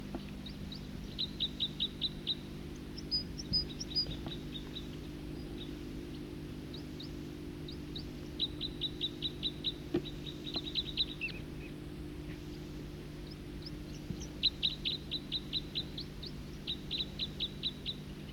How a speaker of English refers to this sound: Both birds singing in unison.